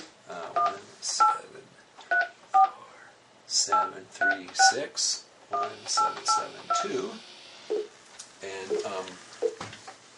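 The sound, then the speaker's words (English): A string of about ten touch-tone telephone keypad beeps, short dual-pitched tones entered in quick irregular bursts over soft background noise, as a local number in the 734 area code is dialed on a corporate Microsoft UC phone. “And so let me just go ahead and call this number.”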